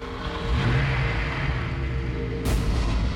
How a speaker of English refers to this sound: Eden starts up the sports car.